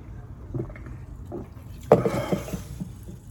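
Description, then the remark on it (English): Seltzer water fizzes: a sudden sharp hiss of release followed by a few seconds of soft bubbling splash, over a low background rumble with no talking. “A little seltzer water.”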